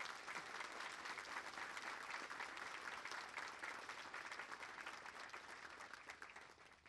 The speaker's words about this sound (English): Please join me in a round of applause for them.